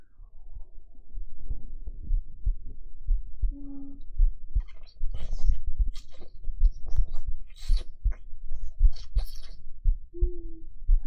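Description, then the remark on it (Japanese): A muffled heartbeat thumps steadily, low and soft, with scattered clicks, rustles and a brief low hum over the top. “心音聞いてください。”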